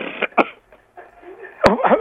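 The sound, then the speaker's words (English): Two sharp, harsh coughs a little over a second apart, the second louder and followed by rough, throaty rasping, with faint murmuring voices underneath. “I hear your cough, and I hear everybody saying, get out of here.”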